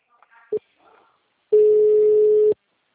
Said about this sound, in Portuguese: mensagem gratuita de telefone ocupado. Aguarde alguns minutos para voltar a ligar. Ocupado.